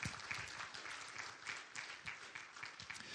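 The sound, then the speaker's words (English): A crowd applauds steadily, many hands clapping in a dense, sustained wash of sound that stays fairly loud and even throughout, a hand clap given for Jesus during a gospel sermon. “Come on, give Jesus a hand clap for that.”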